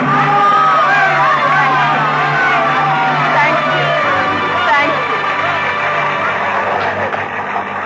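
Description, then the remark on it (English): A large audience roars with frenzied cheering and applause for a single performer, many voices whooping and shouting at once in a loud, continuous wall of sound that never lets up. “It was then that I first experienced what will always be to me in all the range of human feelings, the supreme exaltation when you hear the full frenzied applause of an audience for you alone.”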